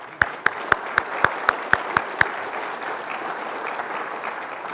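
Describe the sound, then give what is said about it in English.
A round of applause from a group, in thanks to the many people involved in helping young people: a string of sharp, evenly spaced claps stands out at first, over a steady wash of many hands clapping that carries on to the end. “There's too many people to say thanks to, so I think a round of applause is appropriate.”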